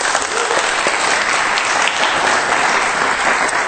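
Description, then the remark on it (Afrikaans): A crowd at a Monday evening church service claps steadily and energetically for the Lord, a dense wash of many hands applauding together at a fairly loud level for several seconds, with no voices standing out. “Nou kom ons gee vir die Here groot hande klap.”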